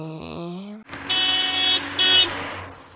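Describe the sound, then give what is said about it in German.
A brief voice-like sound, then a car engine rumbling while a loud horn honks twice, one long blast followed by a shorter one. “Nö, mit dem Auto auch nicht.”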